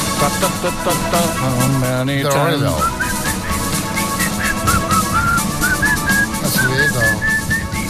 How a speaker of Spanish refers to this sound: Ojalá saber silbar para hacer eso.